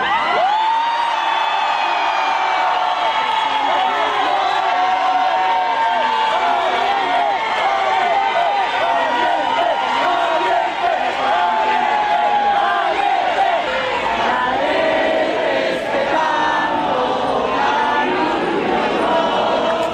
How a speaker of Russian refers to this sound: Сторонники Марии Мачадо встретили ее появление на балконе Гранд-отеля Осло овацией, национальным гимном Венесуэлы и скандированием слова «Либертад» — «Свобода»